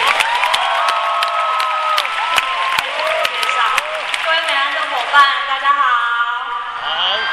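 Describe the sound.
An audience applauds steadily to welcome a speaker, dense clapping mixed with overlapping voices and some cheering, holding loud for several seconds before thinning slightly at the end.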